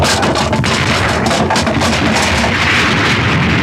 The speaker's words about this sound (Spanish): La embarcación rebota contra las rocas haciéndose pedazos. Las olas embravecidas revuelven el resto de la lancha una y otra vez hasta convertir en astillas lo que antes fuera una esbelta embarcación.